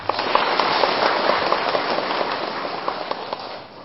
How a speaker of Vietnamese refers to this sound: Xin quý vị tán thán cho chàng pháo tay.